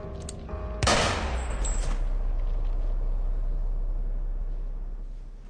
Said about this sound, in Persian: اسلحه صدا خفه کن.